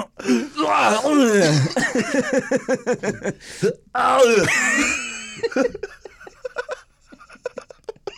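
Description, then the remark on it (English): A voice imitates throat clearing with raspy, guttural bursts, mixed with laughing, groan-like vocal sounds, fairly loud, trailing off into quieter clicks. “Like you're clearing your throat.”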